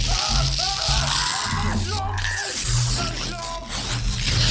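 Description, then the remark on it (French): A chaotic crowd of people screaming and yelling at once during the evacuation of the Bastille area, loud, with overlapping shouts rising and falling in a continuous, panicked din. “Mais qu'est-ce qui se passe? C'est quoi ces cris?”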